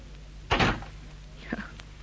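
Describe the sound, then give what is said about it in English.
A door is handled: a loud, broad thump of it opening, then about a second later a lighter knock with a brief creak as it shuts, over a steady low hum. “Open the door.”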